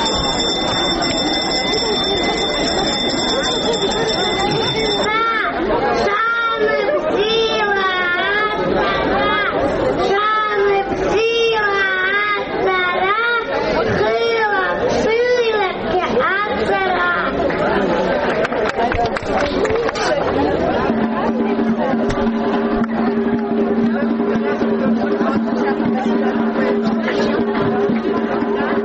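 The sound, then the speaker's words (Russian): A lively crowd of young schoolchildren and their parents chatter together in a school yard in Abkhazia at 9 a.m. on the first day of school, after the first bell, many overlapping voices filling the space, opening with a steady ringing tone and settling into a lower background hum near the end. “Она началась в школьном дворе в 9 утра после первого звонка и поздравления от руководства школы для малышей и их родителей”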